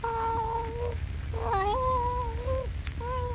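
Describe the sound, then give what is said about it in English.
A Siamese cat, curled up on a lap, lets out three long, drawn-out yowling meows, loud, each wavering in pitch, over a low steady rumble in the background. “Rooted to the chair, Jimmy stares in frozen, wide-eyed fear at the Siamese cat, which, curled up on his lap, looks up at him out of its strange blue eyes.”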